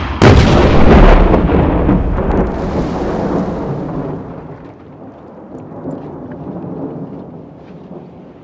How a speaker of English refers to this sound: After a heavy explosion, both sides have been hit drastically. Everywhere you looked, you couldn't see a thing because of dense smoke.